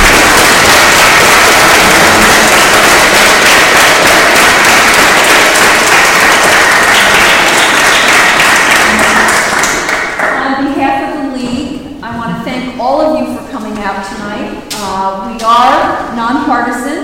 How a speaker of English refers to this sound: I think it's appropriate to offer a round of applause.